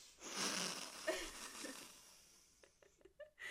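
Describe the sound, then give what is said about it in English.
A person imitates Filch sniffing Harry: a long, breathy, hissing snuffle followed by a quick series of four or five short, sharp sniffs, fairly loud with no talking. “Filch crossed all the names off his list and sniffed Harry as he got to the front of the line.”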